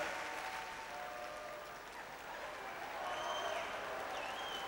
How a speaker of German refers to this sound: Jetzt müsst ihr nur noch langsam klatschen. Dass man nichts hört.